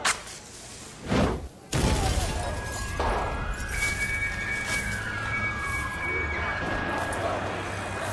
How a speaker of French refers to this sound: Une sifflante derrière, une sifflante permanente, c'est sans doute un signal d'alarme de cette banque qui n'a pas été arrêtée depuis que cette banque a sauté. C'est Eurobank et ça a vraiment sauté.